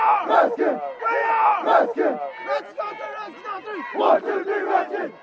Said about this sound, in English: It's game night at Red Mesa High School. Fans pour into the bleachers as the football team makes its way to the field.